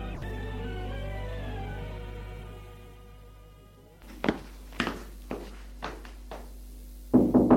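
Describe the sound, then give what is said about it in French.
A low sustained musical drone fades out, then five evenly spaced, solid knocks land on a bedroom door, followed by a louder burst of noise at the end. “Il frappe à la porte de sa chambre et entre.”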